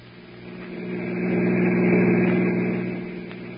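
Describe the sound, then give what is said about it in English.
A car engine hums steadily as the vehicle drives along, swelling louder toward the middle with a low, droning rumble before easing back slightly, heard alone without any talking. “Get the car.”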